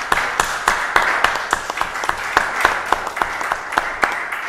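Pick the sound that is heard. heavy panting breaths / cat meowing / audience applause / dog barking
audience applause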